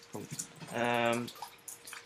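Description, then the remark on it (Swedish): Rainwater dripping and trickling outdoors while it rains, a steady splashing stream that swells in the middle, with scattered drips around it. “Det låter som att det är någon som pissar i sändning, men det är alltså vatten för det regnar ute.”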